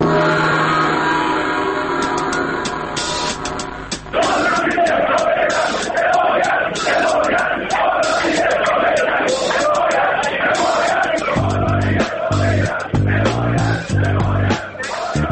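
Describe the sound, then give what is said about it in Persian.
A large crowd in Iran shouts and yells in protest, a loud, dense wall of overlapping voices that begins after a few seconds of steady tones and carries on to the end. “از سقوط آزاد ارزش ریال تا اعتصاب بازار تا فریاد اعتراض”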